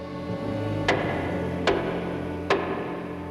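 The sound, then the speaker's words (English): A visitor pushes down the jaw of a door knocker on the front door of a house, as the wind blows; the knocker strikes four times at a slow, even pace, each sharp metallic knock cutting through a steady low, humming backdrop. “The visitor pushes down the jaw of the door knocker.”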